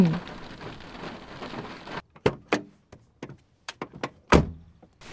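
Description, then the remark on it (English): A steady hiss of rain pours down on a small, isolated field for about two seconds, then cuts off abruptly, leaving scattered sharp drips and taps in quiet gaps. No one speaks. “It's so pretty. Oh, especially in the rain.”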